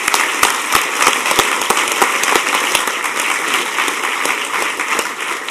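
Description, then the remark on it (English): A conference crowd applauds the event team steadily, with dense, crackling clapping from many hands and sharp individual claps popping out. The applause stays loud and even throughout, with no one speaking. “round of applause to all you guys.”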